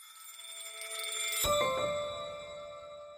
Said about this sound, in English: He spoke to me from Milan on the last day of Men's Fashion Week there, and you can even hear the church bells accompanying our conversation in the background.